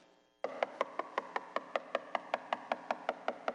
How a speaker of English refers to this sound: He proceeds to knock, and from the other side of that door, you hear, don't bother me, the house is now asleep. And then you hear this.